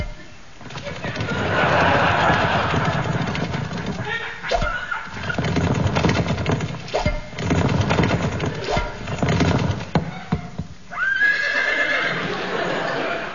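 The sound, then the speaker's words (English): A horse at the Badminton Horse Trials neighs and whinnies loudly, with hooves clip-clopping through a busy, noisy stretch and a final high whinny near the end. “It's the badminton horse tiles.”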